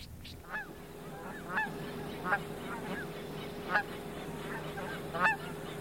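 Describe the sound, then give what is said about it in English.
A flock of geese flying in to land honks repeatedly, with sharp, nasal calls rising every second or so, some overlapping, above a steady low droning hum that runs through the whole clip. “Traffic is just stop watching the geese come in.”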